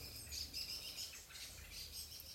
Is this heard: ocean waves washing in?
no